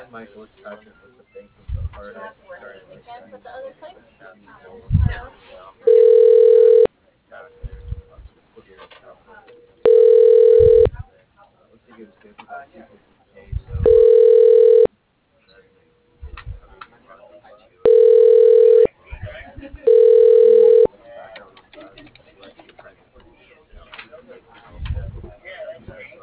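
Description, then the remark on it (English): A telephone ringback tone, heard while a call to PRN's administrative offices is transferred to the Medical Records Department, buzzes five times in steady, evenly pitched bursts of about a second each, roughly every four seconds, over a low murmur of background noise between rings. “Transferring call. Please hold.”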